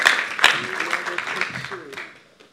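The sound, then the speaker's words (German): Dense applause from an audience for the band, mixed with scattered voices and a few whoops, steady for about two seconds before tapering off quickly. “Applaus für die Band.”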